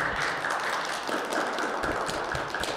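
A room of people applauding, a steady, dense patter of many hands clapping together that keeps up evenly for a few seconds, with no voices over it.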